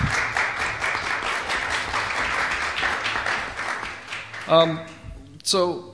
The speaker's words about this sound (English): And I think the table to my right needs a bit of a clap and applause because they do a great job here in San Diego.